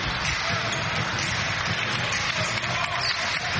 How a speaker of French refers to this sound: On entend déjà les applaudissements qui descendent des tribunes de cette Kigali Arena sur cette performance encore une fois plus que convaincante.